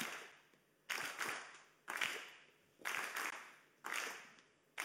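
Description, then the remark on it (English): A group claps together in a steady beat, about one loud clap per second, each burst sharp with a brief ringing tail. Five claps in all, with no talking. “So we're going to do clapping on this side now. So we're going to go clap, clap, clap, clap, clap.”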